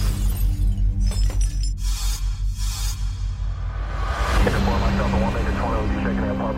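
A window's glass shatters in a few loud, sharp crashes, followed by scattered tinkling of falling shards over a low, steady rumbling drone.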